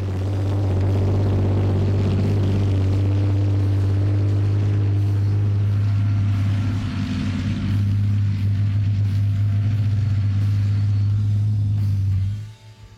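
The V12 diesel engine of a Challenger 2 tank idles up close, a steady, deep throbbing rumble with strong low hum, running continuously for about twelve seconds before cutting off abruptly near the end.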